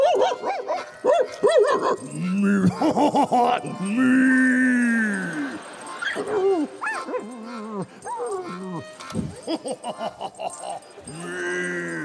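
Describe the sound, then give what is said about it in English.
A dog barks in short bursts, then lets out long, rising and falling whimpers and whines, with more yelping barks near the end. “The dog is humiliated”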